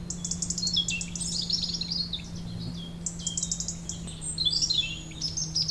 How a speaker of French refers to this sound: On se retourne là vers donc ce paysage, ce champ de croix très paisible. On entend le chant des oiseaux.